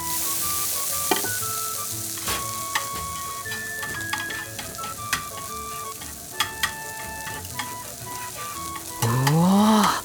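Steady sizzling of soft scrambled eggs with cheese cooking in a frying pan, with scattered clicks and taps of a utensil stirring, and a brief louder scraping swish near the end; no one speaks.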